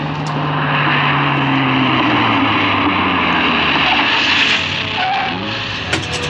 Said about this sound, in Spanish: El auto se detiene en los portales de mercaderes de la Plaza Bazán, en el corazón de Estambul.